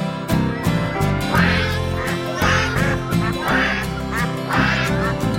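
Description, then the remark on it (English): A series of loud, nasal duck quacks repeats in a steady rhythm over bright, continuous music, with no speech. “That is what ducks say.”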